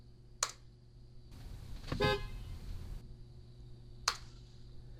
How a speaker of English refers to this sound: And honk the horn with this.